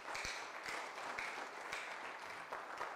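An audience applauds the Lord steadily, a dense wash of many hands clapping at once with a few sharper claps standing out, sustained at an even level throughout with no voices.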